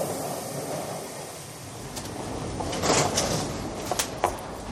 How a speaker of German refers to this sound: Eine U-Bahn fährt in den Bahnsteig ein.